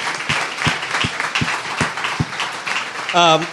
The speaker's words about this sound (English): One more time. Give him applause.